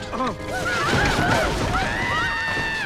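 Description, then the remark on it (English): The horses of three horsemen whinny repeatedly with rising and falling cries as they draw up, over a steady rumble of hooves and movement, loud throughout. “narrowing his eyes, puts his broad-brimmed hat back on, gets up and dusts off his hands as the three horsemen draw up.”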